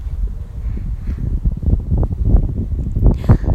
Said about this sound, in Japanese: 風めっちゃ強いんだけど、前回のさ、収録の時さ、めっちゃ風の音入ってるねみたいな言われた。ごめんなさい、だって外にいるんだもん。